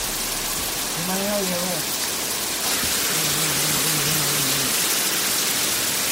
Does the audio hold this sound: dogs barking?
no